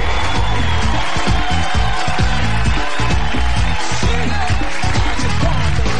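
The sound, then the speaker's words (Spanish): A loud, dense crowd shouts and cheers nonstop for several seconds, a sustained roar of many voices with a rhythmic, musical pulse running through it. “Y dice el mundo gritando.”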